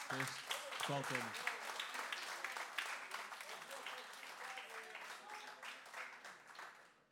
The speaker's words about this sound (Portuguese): E o senhor do som, que impecável. Uma salva de palmas.